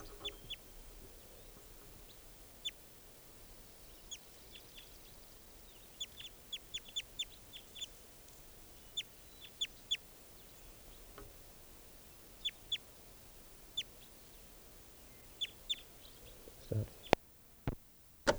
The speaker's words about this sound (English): 7:25 a.m. and I just collected that bird who was just calling. Type 2 male, not a female. And he'll be bird 598, JGG 509.